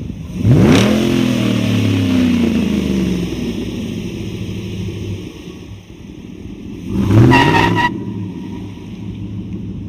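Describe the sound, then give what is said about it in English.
The engine of a Ford 150 Raptor in a driveway revs hard twice, a loud rising roar near the start and another sharp rev about seven seconds in, with a steady rumbling idle between them. “I want to show you this vehicle right here. Watch this.”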